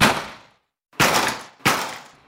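Four heavy, booming thuds strike a door at uneven intervals as someone deliberately kicks it hard after slamming it failed, each loud blow ringing out briefly before fading; the last hit is cut off.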